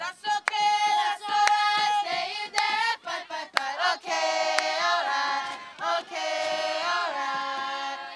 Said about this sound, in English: Yep, that's our cheers.